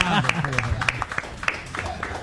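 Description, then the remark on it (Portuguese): Scattered studio audience applause, with individual handclaps popping irregularly over a low murmur, thin and uneven rather than a full roaring ovation, holding at a steady moderate level throughout. “Podem aplaudir a plateia.”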